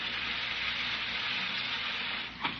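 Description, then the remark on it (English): Carbonated water fizzes from a soda fountain in a steady, bright hiss that holds for a few seconds, with a brief louder spurt just before it trails off. “No, turn on that carbonated water. I want to hear it fizzle.”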